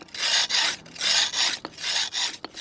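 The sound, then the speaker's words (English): A knife being sharpened by a street knife and scissors sharpener in the hutongs: steady, rhythmic rasping strokes scrape back and forth about six times, bright and gritty, with a couple of short metallic clicks between passes and no talking. “Liu Bao has been sharpening knives and scissors for more than two decades.”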